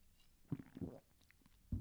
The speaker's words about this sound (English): I need to take just a little sip of my pop I got here.